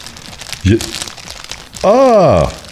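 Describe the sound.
A plastic (nylon) bag crumpled as foley to mimic a crackling fireplace: a steady, dense rustle of small crackles runs throughout, broken by a short vocal sound and then a longer, louder sliding voice near the end.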